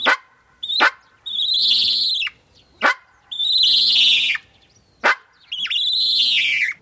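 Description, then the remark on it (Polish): A bird gives loud alarm calls, warning that a cat is approaching: three harsh, drawn-out, buzzy screeches, each preceded by a sharp chip, repeating in a steady rhythm with brief gaps and no talking. “To jest właśnie taki typowy odgłos ostrzegawczy, że coś nadchodzi.”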